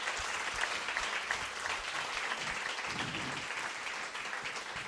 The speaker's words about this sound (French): Alors, à tous ceux qui sont dans la salle, est-ce qu'on peut faire un signe à nos internautes en applaudissant bien fort et en disant « on est content d'être ensemble ».